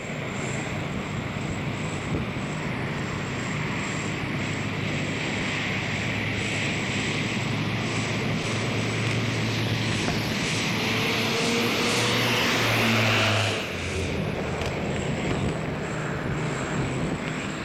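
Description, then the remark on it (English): A propeller plane's engine roars steadily at high power with its brakes locked and dirt flying, its droning tone rising in pitch as it revs harder and surges forward on release, a loud sustained buzz with a brief peak near the end. “Winding him up. Dirt's flying. Got his brakes locked. It's flying.”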